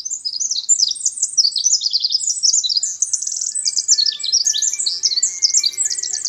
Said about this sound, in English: That Eurasian wren is closely related to the winter wren of the eastern United States and the Pacific wren of the Northwest. The songs of these birds are long and amazingly complex.